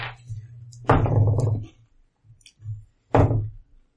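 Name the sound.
dice being rolled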